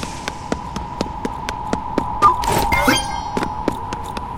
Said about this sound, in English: I think that car just crashed because it hit the pothole. That's funny.